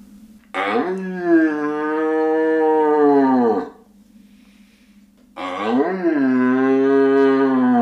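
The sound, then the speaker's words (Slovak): A person imitates, as a hunting call, the roar of a young red deer stag seeking hinds: two long, loud, moaning bellows separated by a brief pause, the second cut off at the end. “Tak ručanie napríklad mladého jelenia, hľadajúceho jelenice.”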